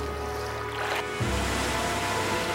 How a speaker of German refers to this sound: Und ehe man sich versah, stand das gesamte Land unter Wasser und versank in den Wogen.